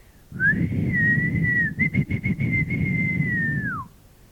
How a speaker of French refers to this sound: Le sifflet suraigu lui vrilla les tympans, jeta les bêtes contre les cages.